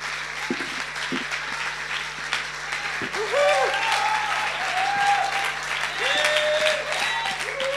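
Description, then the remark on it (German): Sustained audience applause honoring and welcoming Pastor Bob Stübner, a dense steady wash of clapping that swells slightly louder midway, with a few faint cheers or whoops rising above it. “heute diesen Mann ehren mit Applaus und gerne mit Aufstehen.”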